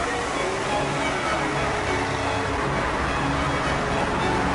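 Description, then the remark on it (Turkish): A constant roar of road traffic at a bus stop where people wait for the Eminönü bus, a dense, steady wash of engine and tire noise with no single vehicle standing out, fairly loud throughout. “Otobüs durağındaki trafik ortası.”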